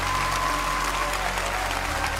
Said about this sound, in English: Come on, Lakewood, they're still standing. We're gonna cheer them in.